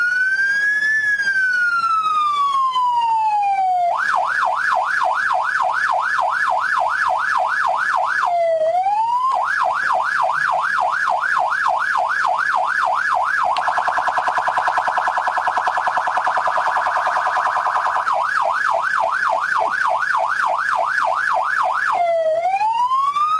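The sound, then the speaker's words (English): A loud police siren cycles through patterns: a slow falling wail, then rapid yelping warbles, a steady buzzing hi-lo stretch, and more fast yelps, with no talking. “Would be funny if I thought the problem was with the siren, so I bring a better siren this week.”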